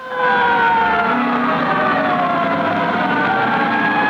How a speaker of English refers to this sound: Fire siren shattered the relative early morning calm of the South Bronx section of New York City a week ago Sunday. The firemen arrived at a social club to find it completely in flames.